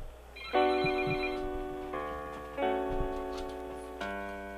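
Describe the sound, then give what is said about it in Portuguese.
A telephone rings with a bright electronic melodic tone, sounding as a series of sustained chiming notes that change pitch in steps, clear with no one talking. “Seu telefone tava tocando.”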